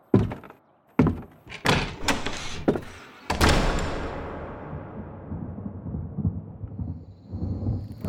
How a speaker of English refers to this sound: It was night now, and the storm was coming back. Johnny and Speck sat beside the wagon, watching jagged fingers of lightning shatter the black sky to the south.